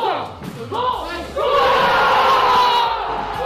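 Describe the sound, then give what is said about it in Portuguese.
A crowd of Sporting fans, in a venue opened in 1990, erupts in loud, sustained cheering and shouting after Paulinho's goal at 9:06 pm, the roar swelling abruptly midway and holding strong with overlapping voices. “O primeiro momento de alegria no espaço inaugurado em 1990 pelo então presidente José Sousa Sintra aconteceu às 21 horas e 6 minutos com o golo apontado por Paulinho.”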